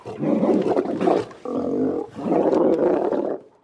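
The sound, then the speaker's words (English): A flock of sheep bleats in loud, raspy, overlapping cries, with one steadier, more tuneful bleat in the middle, and only the faintest hint of bells among them. “Sheep and Bells, Animal Flock, 138424.wave.”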